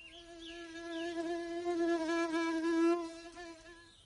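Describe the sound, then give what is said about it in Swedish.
A fly buzzes steadily for several seconds, a continuous droning hum that swells and fades slightly as it hovers, with no voices present. “Jag är en fluga. Ni vet, en sån där liten insekt som har vingar och surrar och flyger omkring på sommaren.”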